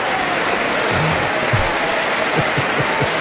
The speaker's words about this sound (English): And they are applauding, and now they're turning around. And actually, they're applauding themselves, as you would expect women politicians to do.